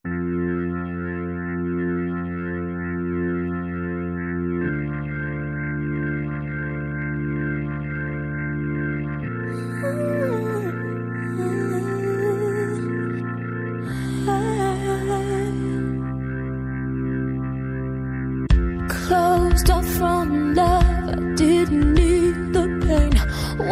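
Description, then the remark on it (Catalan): A slow pop ballad intro: sustained keyboard chords shifting every few seconds, a soft melodic line drifting above, then drums and a fuller band entering near the end, with no singing yet. “Tot seguit escoltarem … de ….”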